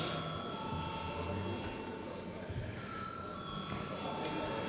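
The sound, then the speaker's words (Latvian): A continuous electric voting bell rings steadily for several seconds in a parliament, called before a vote on a Civic Union faction proposal, a sustained bright tone over a low murmur of people shifting and talking quietly in the background. “Lūdzu zvanu.”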